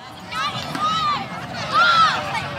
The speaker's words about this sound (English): It's a Saturday afternoon in Golden Gate Park, and a handful of kids are taking turns sending a little white stomp rocket into the gray San Francisco sky. It arcs up, then sails back down to this small meadow at the northern edge of the park